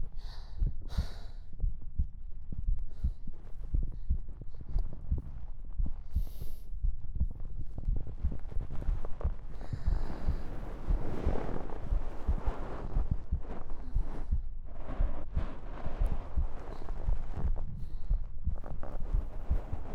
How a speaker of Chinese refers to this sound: 让我这样抱着就好。心跳声很快，很大声，就这，不要再说了嘛。